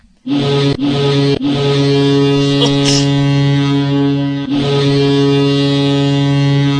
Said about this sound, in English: I don't think that's it. That's not the foghorn. Totally is the foghorn. Nah, I think you had a different one back in the day. No. It's a truck.